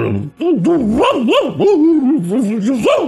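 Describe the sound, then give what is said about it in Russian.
A man, pressing a finger tightly against his upper lip, imitates a dog with a series of muffled, throaty barks and yelps, rising and falling in quick succession for about three seconds, fairly loud. “плотно прижал пальцем верхнюю губу и вдруг приглушенно залаял.”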